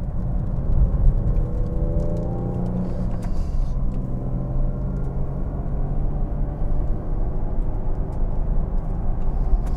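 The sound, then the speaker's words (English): Busy traffic ambience at an airport early on a Monday morning at dawn: a steady low engine rumble fills the scene as a car passes by, its motor tone shifting early on before settling into a continuous drone. “We're out here at the airport. What a busy place this place is on an early Monday morning in the middle of the crack of dawn.”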